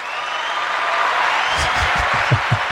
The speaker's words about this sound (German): Also endlich applaudiert dir mal einer. Bitte. Ich nehme das immer alles nur als gegeben hin. Bitte, bitte hört nicht auf zu klatschen.